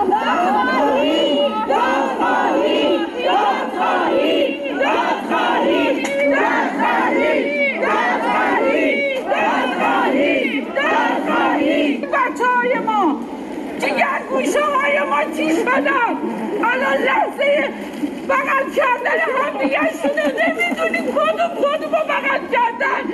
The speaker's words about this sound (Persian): همچنین خانواده های قربانیان این حادثه با در دست داشتن عکس قربانیان و شاخه های گل در فرودگاه امام فریاد دادخواهی سر دادند.